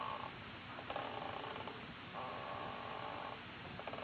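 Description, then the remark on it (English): Mrs. Davis's rocking chair creaks in slow, regular back-and-forth strokes, each drawn-out squeak lasting about a second over a low, steady rumble, with no voices. “I've got to exercise more. My bones are rusting. Oh, it's the rocker.”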